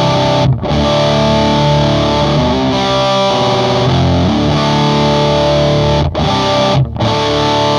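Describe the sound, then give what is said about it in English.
A loud, distorted electric guitar rings out through an amp, showing its basic tone with thick sustained chords and a few brief breaks between strums. No one talks over the playing. “Before I let you go, can I hear your amp?”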